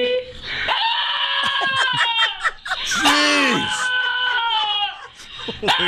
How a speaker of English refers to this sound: Holy God. Man, that dog hates his owner. That is unbelievable. Is that some kind of biological anomaly? Like, right. Is there something? Sounds like Kinnison. Is there something wrong with the dog's barking?